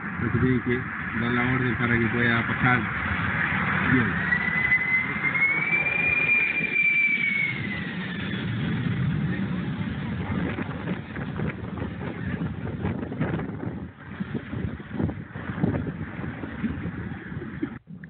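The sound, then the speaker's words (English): A large supertanker jet plane roars low overhead while dropping water on wildfires in California wine country, a loud, steady rumble with a high engine whine that rises and falls as it passes, while people talk underneath. “And this article is going into, shows a video of this global tanker LLC dropping in the wine country.”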